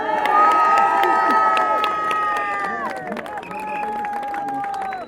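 A crowd cheers and claps steadily for about five seconds, with high shouts and whoops rising over a dense wash of applause that stays loud throughout before easing slightly at the end.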